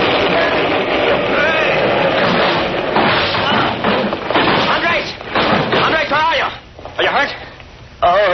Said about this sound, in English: He picked it up and jerked. There was a deafening explosion, and the whole wall rose up and toppled in upon them.